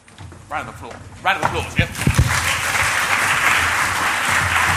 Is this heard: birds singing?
no